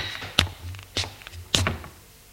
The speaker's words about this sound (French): Il entend qu'elle ouvre la porte de la chambre et entre.